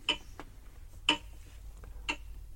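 A clock ticks steadily, about once per second in an alternating tick-tock pattern of sharper and softer clicks. It sounds fairly quiet, over a faint low background rumble, with no one talking.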